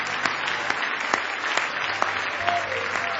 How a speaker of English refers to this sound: Now give him one more hand clap of praise. You love him tonight.